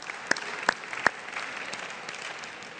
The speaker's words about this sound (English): Well, come on, if you're going to clap, don't Mickey Mouse. Come on, give God a clap offering. Praise the Lord.